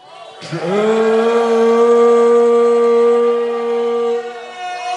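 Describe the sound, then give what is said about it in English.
A large man gives one long, loud, lowing moo in imitation of a cow. His voice swoops up at the start, then holds a steady, drawn-out tone for about four seconds before fading. “A large man is mooing back there is what it sounds like.”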